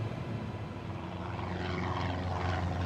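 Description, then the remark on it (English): Three twin-engine Cessna Skymaster propeller planes drone steadily overhead, flying in formation south toward Cuba over the sea between Florida and Cuba in clear skies, February 1996; the engine hum holds a low rumble with a faint rising whine as they pass, continuous, with no voices. “Three twin-engine Cessna Skymasters are flying in formation, headed south toward Cuba.”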